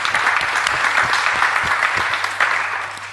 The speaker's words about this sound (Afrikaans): Geef vir Charles de Tooy asseblief 'n lekker hande klap.